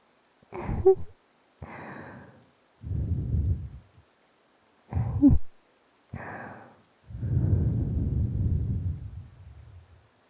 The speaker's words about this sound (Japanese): それでは、ひんやりとした雪女の吐息でお客様の熱を冷ましていきますね。